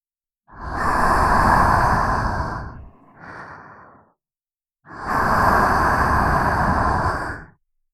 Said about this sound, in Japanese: お耳に吐息をかけられるとどうなっちゃうんでしょう。